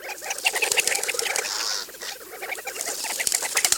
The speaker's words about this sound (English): The water is collected by rocking. The bird shifts its body side to side and repeatedly shakes the belly feathers in the water. Fill-up can take as long as 15 minutes.